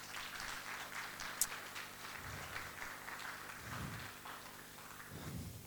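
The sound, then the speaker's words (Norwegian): Audience applause for the guys, a dense, steady patter of many hands clapping throughout at a moderate level, with a few low rumbling swells of crowd noise underneath. “Jeg synes vi skal gi gutta en skikkelig applaus.”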